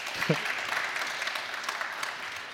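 crowd, sparse audience applause

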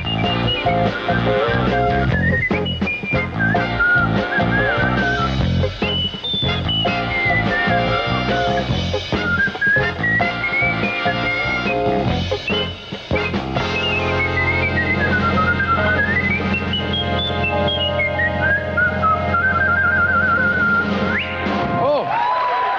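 jazz whistling performance

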